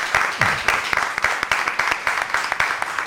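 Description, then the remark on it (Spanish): An audience breaks into applause, a dense, steady wash of many hands clapping for about three seconds, with a few sharper individual claps standing out from the crowd. “Hombre, no es cuestión de morirse, pero pues, podéis aplaudir, ¿eh?”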